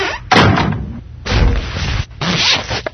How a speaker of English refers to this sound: Could you shut the door, Igner dear? I think I feel a draft coming on.